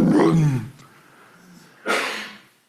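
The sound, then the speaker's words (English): A lion in Africa roars with a deep, rumbling growl that fades, followed after a short pause by a loud, breathy grunt. No one speaks. “And his voice is like a roaring lion. I've thought about this differently ever since going to Africa a few years ago and hearing.”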